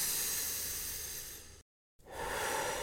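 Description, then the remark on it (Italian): A patient lying on an examination couch breathes deeply as a doctor examines her: a long, deep breath out, a brief pause, then another slow, airy breath in, fairly loud with no talking. “Si accomodi sul lettino che la visito. Respiri profondamente.”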